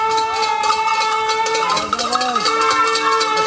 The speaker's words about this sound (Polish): Wielkie brawa, kibice! Musimy was usłyszeć! Wielkie brawa! I mamy kibiców naprawdę, bardzo wielu kibiców na trasie.